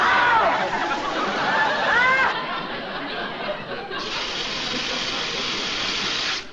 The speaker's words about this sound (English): Honey, the water is back on. You're telling me!